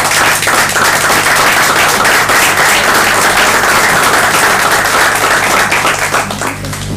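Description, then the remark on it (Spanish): A meeting audience applauds to wish luck to a newly appointed secretary, many hands clapping in a dense, continuous patter at an even loudness for several seconds, easing slightly at the very end. “Se lo propongo aplaudirlo y desearle suerte.”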